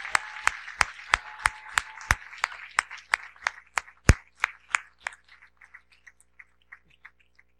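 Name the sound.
audience applause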